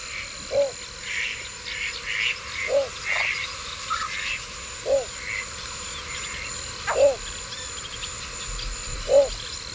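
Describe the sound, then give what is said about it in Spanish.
Frogs croak in rice paddies in slow, evenly spaced single calls, five in about ten seconds, over a steady background hum of insects. No one speaks. “Todos los patos se van ahora, hasta hora del crepúsculo, se van a comer por los arrozales. Hay ranas.”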